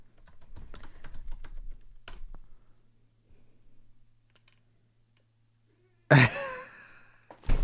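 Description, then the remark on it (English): Rapid clicking of keys on a computer keyboard for a couple of seconds, then a quiet pause before a sudden loud vocal outburst near the end. “Are you typing the reference?”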